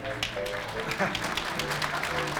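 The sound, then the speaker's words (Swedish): An audience applauds steadily for a couple of seconds: dense, continuous clapping from many hands at an even loudness, with a faint voice audible underneath. “ja, det är faktiskt vi som måste applådera i detta fallet.”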